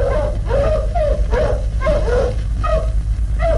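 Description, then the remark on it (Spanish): A pack of wolves pulling a stretcher carrying the wounded Calimán stops near large rocks, yelping and whimpering, short high-pitched cries repeating and overlapping every half second or so over a steady low rumble, with no one speaking. “La manada de lobos que tira la parihuela donde va Calimán herido se detiene cerca de las grandes rocas”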